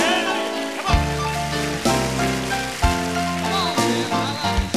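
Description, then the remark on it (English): An audience claps steadily for the Lord, a dense wash of applause running the whole time beneath a live band playing a piano and bass intro to a brand new song, with chords changing about once a second. “And if you appreciate that day when Jesus reached down, give the Lord another hand, would you?”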